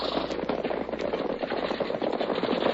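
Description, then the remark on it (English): A rapid, continuous barrage of gunshots as a man unloads his guns, sharp cracks piling on one another with barely a pause, loud and crackling over a noisy rumble, with no voices. “I'm going to unload my guns.”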